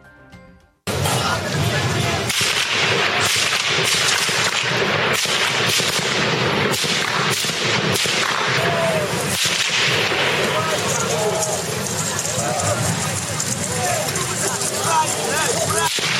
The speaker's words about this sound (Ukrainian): Активісти Майдану, які слідом за ними рушили по вулиці Інститутській, потрапили під прицільний обстріл.